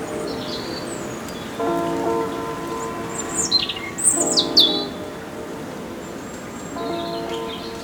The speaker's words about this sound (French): le chant de l'oiseau qui vous rassure, ou cette douce brise légère qui s'écoule.